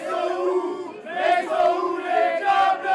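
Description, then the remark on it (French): A large crowd of French football fans, showing their France team shirts, cheers and chants in unison after Théo Hernandez's goal in a France–Belgium match, a loud sustained roar with rhythmic swells of voices rising and falling throughout. “Explosion de joie sur le but de Théo Hernandez. Les Français font la fête et chantent en montrant leur maillot de l'équipe de France.”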